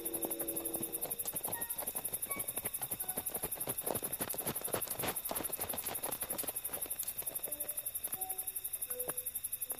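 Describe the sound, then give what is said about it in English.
Horse hooves clip-clop in a steady, uneven patter of hollow knocks as the Lone Ranger reins his horse to a halt in moonlit darkness near a lawyer's lighted office, over a constant high hiss, with no voices. “A short time after Bogus and Elk left town, the Lone Ranger drew rein in the moonlit darkness near the scheming lawyer's lighted office.”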